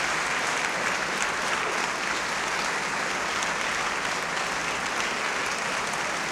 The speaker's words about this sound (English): Once again, Franco Gulli and Enrico Cavallo on stage, acknowledging the applause of the audience here in Alice Tully Hall.